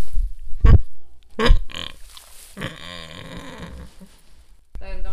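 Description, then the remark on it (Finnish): A pig named Paavo grunts drowsily while napping under a heat lamp: a few short, sharp snorts followed by longer, drawn-out groaning grunts in an uneven, sleepy series, with no talking. “Possulla on hirveän monipuolinen toi niiden äänirepertuaari.”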